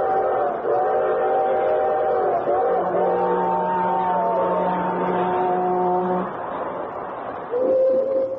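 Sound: freight train whistles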